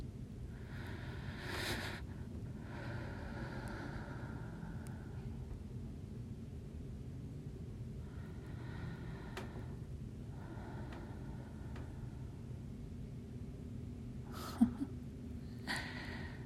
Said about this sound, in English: Your snores too.